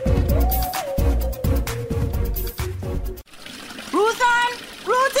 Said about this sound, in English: You know what? Let me turn off this pipe here, yeah? Because I can't understand how she left the bucket full and the water run over. She no realize the water scarce.